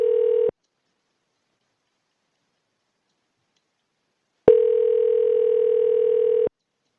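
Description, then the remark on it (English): A steady electronic telephone keypad tone sounds briefly as option 2 is pressed in an automated phone menu, then after a few seconds of silence a second, longer tone plays at the same pitch, clear, with no voices. “Pour press les demandes de groupe, appuyez sur le 2. Press 2.”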